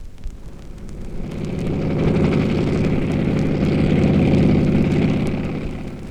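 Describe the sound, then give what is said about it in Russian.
A Po-2 propeller biplane drones past overhead at the edge of an airfield, flying at about 200 km/h, its buzzing, harmonic engine note swelling louder toward the middle and easing off slightly as it flies on. No voices are heard. “Над краем поля пролетает самолет ПО-2, музейная редкость в наше время.”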